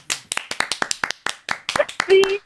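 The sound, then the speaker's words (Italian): A quick, steady run of about a dozen hand claps, sharp and evenly spaced, imitating knees that applaud with each step when walking; a brief hum-like voice sound comes in near the end. “Delle ginocchia che applaudono quando cammini.”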